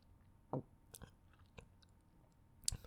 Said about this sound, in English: I just keep swallowing. You can still taste your gum mixing with my spit in my mouth.